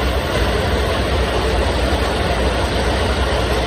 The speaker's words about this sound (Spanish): Rotura de una tubería que ha generado esto que escuchas, un enorme río de agua que ha ido calle abajo, inundando algunos garajes, locales y sobre todo el acceso que hay en ese punto a la M30.